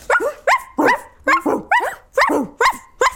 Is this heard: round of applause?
no